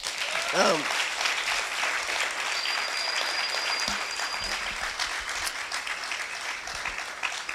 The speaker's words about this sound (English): As we, could you just give him a hand clap?